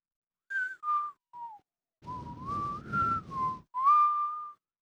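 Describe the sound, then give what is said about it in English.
Someone whistles a slow Western-style tune: a few short separate notes, then longer sliding notes over a rough, breathy rumble, with no talking. “If you whistle it, it sounds like a Western.”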